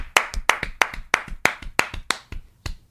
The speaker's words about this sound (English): Let us be the first to offer this round of applause for anybody who's gotten laid. A round of applause is both of us clapping, dude. 1, 2, 3.